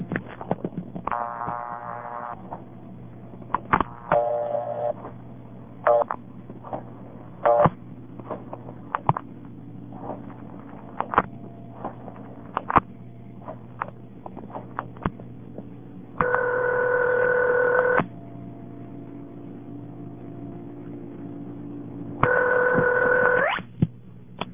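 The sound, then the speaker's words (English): A telephone line clicks and clatters as a step-by-step switch quickly routes the call. Then come two loud ringback tones a few seconds apart, each lasting about two seconds, with no talking. “I'll dial a 765 number so you can hear how the step switch is quick and how the ringing sounds”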